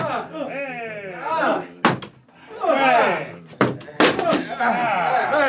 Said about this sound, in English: Open up in there! Open up or I'll break the door down! All right, men! Bring the battering ram!